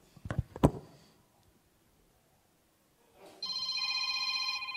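Two sharp clicks, a few seconds of near silence, then a phone's alarm clock ringtone starts playing over Bluetooth through a small ADK accessory speaker, not the phone: a steady, bright multi-tone chime that sustains, moderately loud, until the end.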